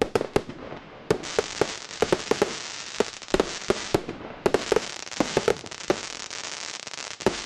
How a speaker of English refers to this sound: Fireworks have a long history here in the West Midlands.